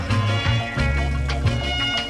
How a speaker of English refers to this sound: Still bubbling away in the background too.